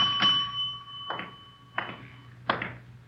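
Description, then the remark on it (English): A small front desk bell at the Sunflower Hotel, 433 Banyan Street, is struck four times at uneven intervals, each sharp ping leaving a bright metallic ring that lingers. It sounds moderately loud, with no one talking. “Nobody at the desk. I'll ring the bell.”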